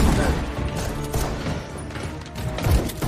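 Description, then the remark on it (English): Loud, booming shotgun blasts fired at a horde of creatures, in a dense, chaotic barrage, overlapping one another amid a constant roar of noise and muffled voices, with a heavier burst near the end. “Lars blasts them with a shotgun.”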